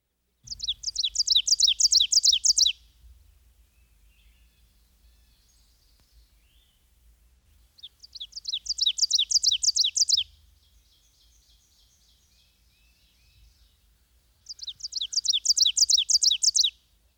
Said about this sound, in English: Another warbler with a two-noted vocalization is the oven bird. His emphatic song, given from a low perch in the forest understory, repeats the phrase, "Teacher, teacher, teacher."